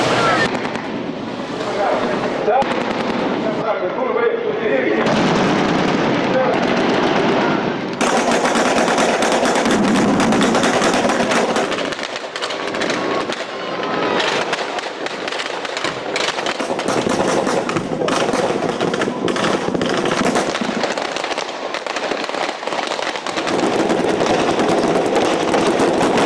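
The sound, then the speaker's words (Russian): Sustained bursts of rapid gunfire crackle and pop almost continuously, dense and loud, with occasional sharper reports and a steady background roar, as black-beret marines cover each other with fire while capturing a beach in a mock landing assault at a public festival; voices can be heard faintly beneath the shooting. “Под бурные аплодисменты зрителей, прикрывая друг друга огнем, черные береты блестяще выполнили задачу по захвату побережья.”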